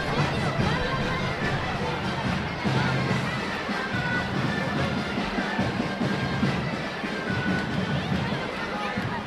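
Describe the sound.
A dense crowd murmurs and chatters continuously in the packed Plaça del Vi in Girona on the opening evening of the Fires de Sant Narcís festival, during traditional dances of giants and big-heads; a steady wash of many voices with occasional louder shouts rising from the hubbub.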